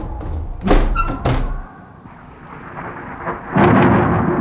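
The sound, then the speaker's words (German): Thunder crashes and rumbles twice in quick succession, then fades to a steady hiss of rain before another loud rolling boom swells near the end: a thunderstorm outside a castle. “Oh, nun ist es auch nicht viel ruhiger. Auch noch ein Gewitter.”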